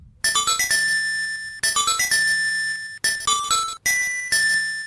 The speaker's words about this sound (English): Wind marimba? Nope. That was a sea lily's bell. Sea lily bell.